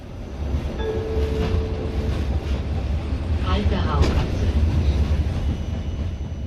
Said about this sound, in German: Die Tram D spuckt ihre Fahrgäste aus. Sie verkehrt zwischen dem Wiener Hauptbahnhof und den Heurigen in Nussdorf, den Weinlokalen am Stadtrand.